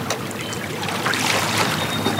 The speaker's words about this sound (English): If you stop for a minute, you can hear the waves.